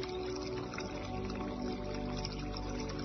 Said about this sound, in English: As you come to the bend in the path and begin to go around the corner, you see a lovely fountain. That fountain that's been trickling and sounding wonderful all through your pathway down the stairs.